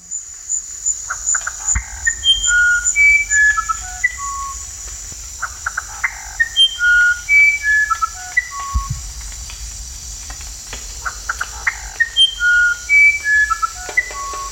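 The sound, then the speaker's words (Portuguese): A musician wren (uirapuru, violinero) sings clear, flute-like whistled notes in varied, wandering phrases that rise and fall in pitch, repeated in a few bursts over a steady high insect drone. “Uirapuru, musician Wren, violinero.”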